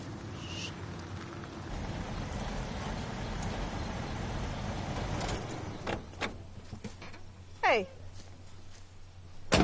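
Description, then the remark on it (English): A truck engine rumbles steadily as it pulls up at a house, then drops to a low idle, followed by a few sharp clicks and clunks of a vehicle door opening and shutting. “Back at the house, Doris lifts the heavy wheelchair ramp to replace it when her mom pulls up in the truck.”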